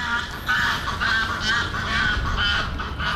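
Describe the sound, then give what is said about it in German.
A goose's loud triumph call as this year's dominant goose asserts itself over the others: a rapid run of harsh, repeated honks in a steady rhythm, continuous over a low background rumble, with no one speaking. “Mit diesem Triumphschrei hat sich der diesjährige Chef durchgesetzt.”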